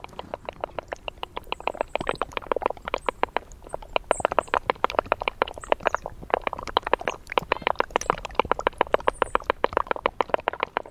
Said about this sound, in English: I went up to Hurricane Ridge at Olympic National Park, made myself do it. I was still convinced that snow would now melt into music. And on a late afternoon, I saw this snow field, and it was dripping water. I walked over, and this is what I heard.